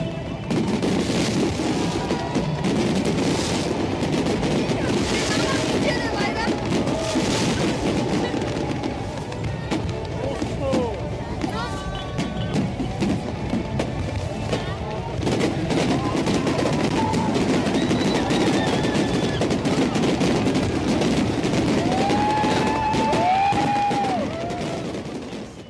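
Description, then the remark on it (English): A dense, continuous barrage of New Year fireworks bursting and crackling at a show organized by the city authorities at Sukbara Square in the Mongolian capital on a cold winter night, with rapid overlapping pops and booms, occasional whistling streaks, and a large crowd murmuring underneath throughout. “to be in the Mongolian capital during this time, you can enjoy a truly unforgettable experience at Sukbara Square, where concerts, live performances by famous Mongolian artists, and a magnificent fireworks show are organized by the city authorities.”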